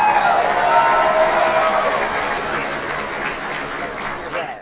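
audience applause and cheering

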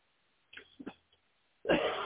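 hacking cough

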